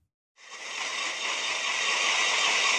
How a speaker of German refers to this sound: Langsam frisst sich auf 4500 Metern Höhe ein Bohrer ins Eis. Ein Video dokumentiert die Arbeiten am Gletscher Colle Nifetti.